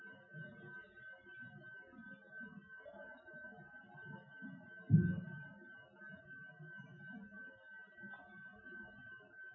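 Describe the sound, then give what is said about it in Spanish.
A person's own heartbeat thuds softly and steadily in the low range, slow and gentle, with one louder beat midway, over a faint, constant high-pitched tone. “Y siento la mínima expresión que le da vida a mi propio cuerpo, la respiración y el latido de mi corazón.”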